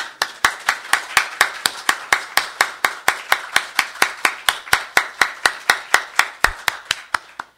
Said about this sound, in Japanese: それでは私たちを歓迎してくださっている主に感謝の拍手を持って礼拝を始めたいと思います。ハレルヤ。